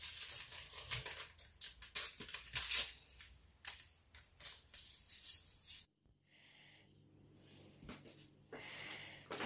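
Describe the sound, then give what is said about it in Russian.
Small paper packets of vanilla sugar crinkle and rustle as four packets are torn open and emptied into a baking mixture, a busy stretch of handling, then a quiet pause and a few softer rustles. “У меня ванильный сахар добавляю. 4 пакетика сюда.”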